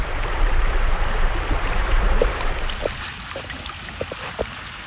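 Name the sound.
creek water flowing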